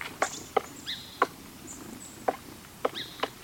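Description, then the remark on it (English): A woodpecker chiseling at wood with sharp, irregular knocks, about seven hard taps spaced unevenly, while faint high bird chirps sound in the background. The woodpecker is carving out a nest hole in a tree trunk in spring. “A woodpecker hard at work, carving out a nest hole in a tree trunk.”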